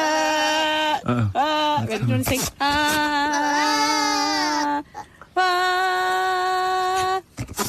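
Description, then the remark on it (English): A goat bleats loudly, a series of drawn-out, wavering, almost human-sounding cries separated by short pauses, with a few quicker bleats at the start. “Hang on, here's another goat here.”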